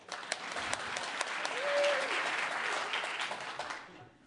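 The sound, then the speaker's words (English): An audience claps steadily for about four seconds on cue, in response to a joke about Candy Crush, a dense patter of many hands that swells slightly in the middle and then fades out. A brief whistle cuts through partway. “Applaud if you do, but you didn't think it was funny.”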